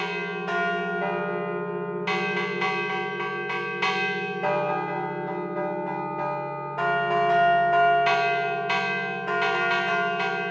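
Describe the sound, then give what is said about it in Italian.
Three church bells ring continuously in a manner used only during the nine days before Christmas, a dense overlapping peal with steady low tones beneath bright, repeated strikes, loud, with no voices. “Perché appunto questa maniera di suonare le campane viene utilizzata solo durante i 9 giorni che precedono il Natale.”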